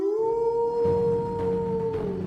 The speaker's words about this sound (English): When I stopped, the golems began again, and were about to start climbing the trees to wrench me down into their jaws, when a howl was heard in the distance.